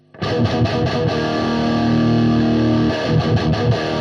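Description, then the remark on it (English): A thick, chunky distorted electric guitar tone plays loud, with heavy sustained chords from a distortion pedal with girth and grind pre-filter controls, a few choppy rhythmic chugs, then a long ringing hold before more palm-muted stabs. “So you have the girth and the grind, which are basically like pre-filters for the distortion, where you can, you know, decide if you want to make the sound more tight, more bassy, or whatever you want.”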